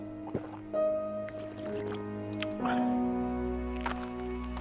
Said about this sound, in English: He had a bottle of water in his hands. He chugged.